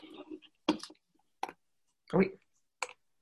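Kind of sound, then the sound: household object, typing on a keyboard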